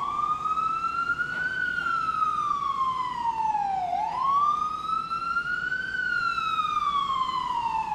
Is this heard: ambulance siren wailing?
yes